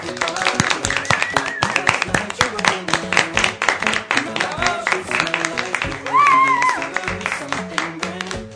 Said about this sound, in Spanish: Y como nos ha salido tan bien, pues vamos a darnos un aplauso.